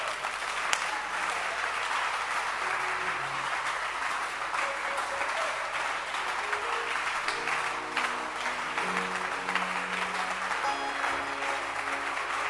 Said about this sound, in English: Clap your hands.